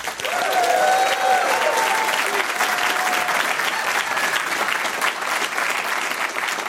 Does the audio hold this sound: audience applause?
yes